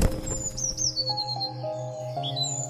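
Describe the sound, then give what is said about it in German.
A blue tit chirps in a series of quick, high tweets as it flies away, moderately loud, over a soft, steady tonal background with no one talking. “Und damit fliegt er zwitschernd davon.”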